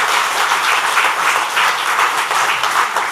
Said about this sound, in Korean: 큰 박수로 환영하겠습니다. 환영합니다.